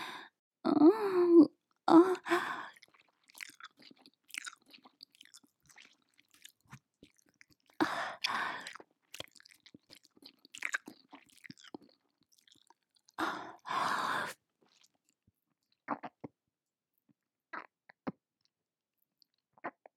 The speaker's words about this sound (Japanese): 今からぐしゃぐしゃって咀嚼して一匹の子やでごっくんしますね。